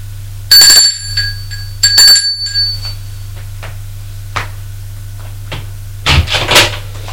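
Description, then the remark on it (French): A doorbell at an apartment door on an upper floor chimes twice as a mother rings at her son's door, each bright ding ringing out briefly, followed by quiet clicks and then the door latch clattering open, with no one speaking. “Et va sonner à la porte de son fils.”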